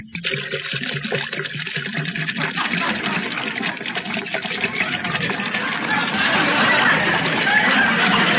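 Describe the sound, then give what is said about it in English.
Water pours steadily into a tall glass, a continuous splashing gush that grows slightly louder and brighter over several seconds as the vessel fills, alone without any talking. “Well, I'll pour myself a glass of water.”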